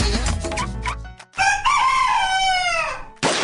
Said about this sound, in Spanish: El gallo canta aunque la rama cruja.